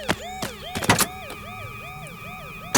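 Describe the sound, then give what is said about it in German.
A shrill Honda motorcycle alarm, set off by someone shaking the motorcycle by its handlebars, wails in quick, repeating up-and-down sweeps, loud, with a few sharp knocks near the start and no talking. “Die Honda reagierte mit blinkenden Lichtern und einem schrillen Alarm.”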